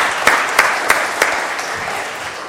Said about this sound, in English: Well done. Will you give him a round of applause? Well done, indeed.